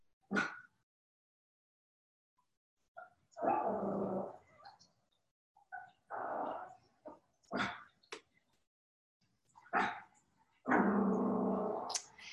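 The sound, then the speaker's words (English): A small dog barks in short, irregular bursts, some sharp and high, others drawn out into rough growling yaps, with quiet pauses between them. Clear, with no talking. “And we might hear a little dog, and that's okay.”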